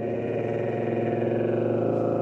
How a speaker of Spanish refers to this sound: Esta es una de las obras con las que nuestro solista de hoy se hizo famoso, ya que es mundialmente conocido como tubista, o sea, ya sabemos que el instrumento es la tuba, también como profesor de este instrumento